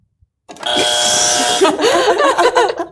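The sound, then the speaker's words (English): A buzzer, grabbed and pressed by a woman with a claw, blares loudly and harshly for about a second as a flat electronic drone, then breaks into excited voices and laughter over lingering noise. “If you didn't see that, she grabbed the buzzer with a claw.”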